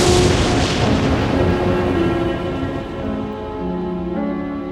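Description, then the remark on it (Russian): A loud thunderclap bursts at the start and slowly rumbles away, while steady rain hisses throughout and a low sustained tone lingers underneath. “Вспышка молнии.”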